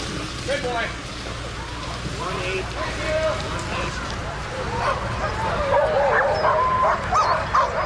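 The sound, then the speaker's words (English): A pack of sled dogs barks and yips excitedly in an overlapping, continuous chorus, with high-pitched whines mixed in. The din grows a little louder toward the end, and faint voices may sit underneath. “Of any checkpoint, there's about an hour that's just devoted to taking care of the dogs.”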